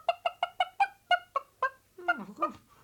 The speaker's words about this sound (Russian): И вместе с ним вылетела на свободу белая курочка с золотым гребешком. Она увидела в окошке короля и закричала.